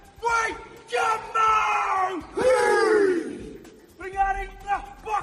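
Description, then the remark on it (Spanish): Men of the New Zealand national rugby team bellow the haka war chant in unison in the Court of the Lions at the Alhambra, Granada: loud, forceful shouted phrases with sharp pauses between them, intense. “Esto es la jaca, la danza o grito de guerra de la selección de rugby de Nueva Zelanda.”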